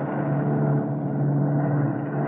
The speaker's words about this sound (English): The work of 4 engines was thrown on the 3 remaining engines.